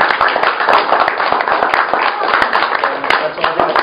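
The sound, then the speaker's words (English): An evening audience gives itself loud, sustained applause, many hands clapping in a dense, steady wash with sharp individual claps popping out, and a hint of crowd voices mixed in. “So let's give yourselves a round of applause.”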